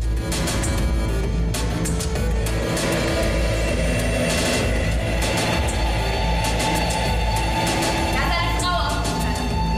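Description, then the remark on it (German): Theatre soundscape of steady subway train ambience with a loud, continuous low rumble and a faint tonal whine, overlaid by indistinct murmuring voices throughout. “Also es werden häufig Tonkulissen erstellt, die dann die Erzählung unterstützen. Und in einer Szene sind zum Beispiel Sabina und Biene in der U-Bahn”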